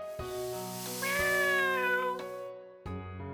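A cat lets out a long, drawn-out meow with a rising and falling pitch, clear. A steady tonal hum runs underneath, with a couple of sharp clicks, and no one speaks.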